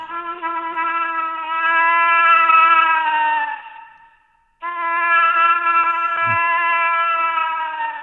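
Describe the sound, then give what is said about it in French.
A caller phoning in to a radio show imitates a moose call with two long, loud, drawn-out nasal wails, each about three to four seconds at a steady pitch, separated by a short pause. “Ça vous tente de nous appeler pour nous caller l'orignal?”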